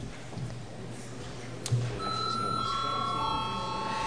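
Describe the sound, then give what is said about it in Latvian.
A steady electronic bell tone, rung in the Saeima, the Latvian parliament, before a vote, starts about halfway through and rings on without pause to the end, over a low murmur of background noise and faint voices. “Ja priekšlikuma nav, tad lūdzu zvanu.”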